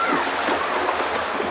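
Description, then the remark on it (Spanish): Steady, continuous splashing of water as naked children splash in a river, with a dense rushing texture at a fairly even loudness throughout. “Niños desnudos chapotean en el agua.”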